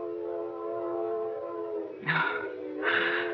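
A train whistle in Dover Ridge holds one steady, harmonic-rich tone for about three seconds, then two louder, breathier blasts cut in near the end. No one speaks.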